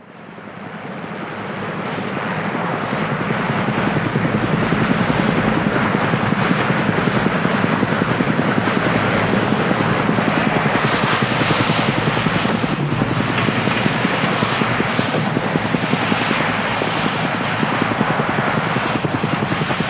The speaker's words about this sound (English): Mark lands at NSA headquarters a short time later in an army chopper.